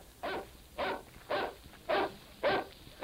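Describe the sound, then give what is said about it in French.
A distant dog howls out five times in short, evenly spaced bursts, faint and hollow against a quiet background, seemingly coming from the Grimpen mire, with no one speaking. “On dirait que ce cri vient du bourbier de Grimpen.”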